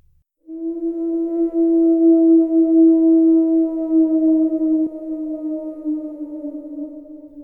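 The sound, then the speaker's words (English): A wolf howls in the distance: one long, sustained, fairly low and steady note lasting several seconds, easing slightly lower and softer toward the end, with nothing else audible around it. “The howl of a wolf.”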